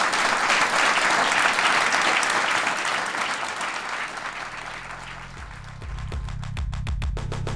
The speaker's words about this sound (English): Everybody, give a round of applause for Sarah.